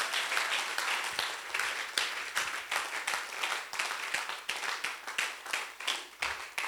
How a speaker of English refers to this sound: Oh, somebody should clap your hands for the Lord.